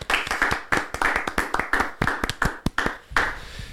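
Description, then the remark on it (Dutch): A brief round of applause from a few people for the GOAT, quick irregular hand claps overlapping in a sharp, crackling patter that holds steady for a few seconds with no voices. “Ik wil niet gelijk beginnen met die fight, maar we kunnen wel even een klein applaus voor de GOAT.”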